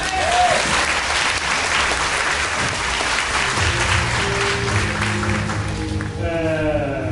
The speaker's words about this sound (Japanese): 今日がですね、なんだっけ、オールデンですね、初の公開収録となっておりますので、皆さん楽しんでいきましょう。拍手。